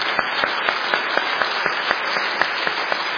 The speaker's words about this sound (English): And before I close this, let's give God a hand clap for what God has done for us today.